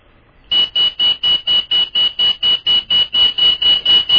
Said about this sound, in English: And now, I'm sure the bell that you're hearing, it's definitely not tea time. It's definitely waking up those who are feeling comfortable and drowsy, but I'm sure it's an indication for members of that esteemed upper house